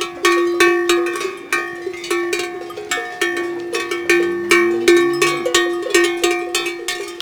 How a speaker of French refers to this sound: Ralliement, des vaches et des chevaux.